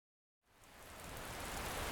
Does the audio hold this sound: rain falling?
yes